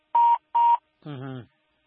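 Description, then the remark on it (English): Two short, loud electronic telephone line beeps, evenly spaced, like a call disconnecting, followed by a brief fragment of a voice. “That phone is going to cut off. The phones are a bit of a problem.”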